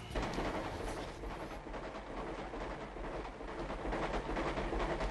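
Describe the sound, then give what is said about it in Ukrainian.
A passenger train, the Donetsk–Verkhovyna train in the 1971 musical Chervona Ruta, rolls steadily along the rails, a continuous rumble with faint rhythmic clatter and rattling of the cars, no voices. “Вони познайомилися в потязі «Донецьк-Верховина».”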